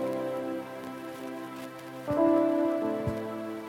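An excavator drones steadily outdoors, a low engine hum whose pitch rises and strains as it works, with a few clanks and knocks. Nobody speaks.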